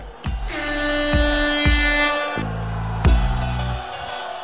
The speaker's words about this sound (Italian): La trombetta l'ha messa Claudio.